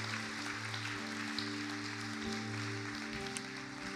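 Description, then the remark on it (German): A crowd applauds the worship team at the Jesuszentrum Kassel steadily for several seconds, a dense even clatter of many hands, while sustained low keyboard chords hum underneath. “Lasst ihnen einmal Applaus geben.”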